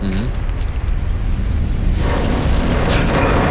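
A strong earthquake tremor in a city: a deep, continuous rumble, steady and loud with heavy low-end energy, swelling slightly midway as it shakes the surroundings, with no voices present.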